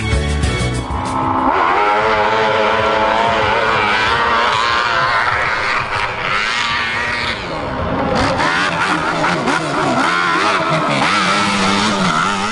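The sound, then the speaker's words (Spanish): Loud motocross motorcycle engines rev and whine continuously, pitch rising and falling as the throttle opens and closes, with no pauses over the whole stretch. “Bienvenidos a un nuevo programa de Experiencias de la Vida y esta vez empezamos con motos, efectivamente.”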